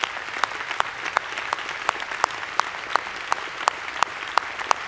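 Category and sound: crowd, audience applauding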